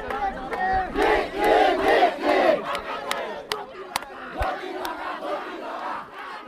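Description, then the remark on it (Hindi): A large crowd of protesters in Darjeeling chants "We want Gorkhaland" slogans in unison, demanding a Gorkhaland state, voices rising and falling in rhythmic bursts with loud, harmonic shouting. Scattered sharp claps or knocks punctuate the steady collective roar. “इस बीच we want Gorkhaland के नारों के साथ प्रदर्शनों का दौर जारी है।”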